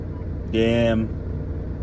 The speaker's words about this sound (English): Shut the fuck up, truck. You know what? I want the motherfucking truck to shut up. Let the truck idle. Let it die.